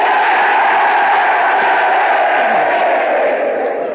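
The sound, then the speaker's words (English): A large crowd of US Navy sailors, the men of the USS Prairie State, cheers and yells at a Vox Pop show in a loud, sustained roar that holds steady for about four seconds, a dense wash of many voices with no single speaker standing out. “And here's a cheer from the men of the USS Prairie State.”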